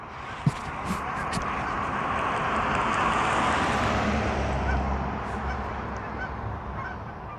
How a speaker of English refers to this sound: As the geese fly overhead, I'm at the back gate.